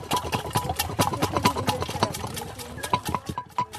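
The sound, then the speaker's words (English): A wooden dasher, a stick with a cross on the bottom, plunging up and down in a lidded butter churn to make butter, making a quick, steady run of hollow knocks and sloshing thumps that repeat several times a second. “And we just have this wooden stick with a kind of cross on the bottom, and then we just put the lid on, and we start moving the stick up and down and up and down.”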